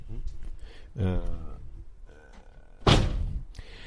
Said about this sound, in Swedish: Stänger du dörren?